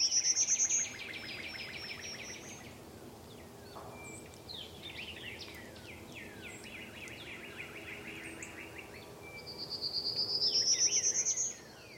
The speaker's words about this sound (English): The prominent bird with the ascending song is a prairie warbler. It's a striking, striped yellow, black, and rust-colored bird, if you can see one.